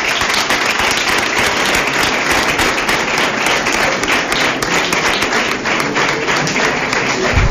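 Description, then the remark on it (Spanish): Sustained audience applause for the carnival herald (pregonero) fills the whole stretch, a dense, steady wash of many hands clapping with no break, fairly loud throughout. “Muchas gracias a todos y nada, otro fuerte aplauso para el pregonero.”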